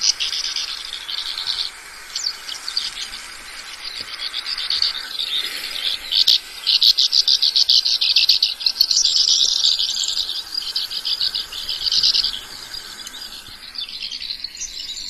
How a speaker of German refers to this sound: Hört sich auf jeden Fall schwalbisch an. Ja, es ist dieses typische Schwalbengeschwätz, was man auch von anderen Arten kennt.